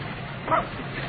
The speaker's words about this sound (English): Double negative and dog. So it's a dog, so what? If I'm not mistaken, dog belonged to Mr. Dick Charleston.